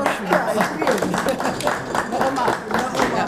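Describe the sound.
An audience applauds steadily throughout, a dense patter of many hands clapping, with voices talking and calling out over it.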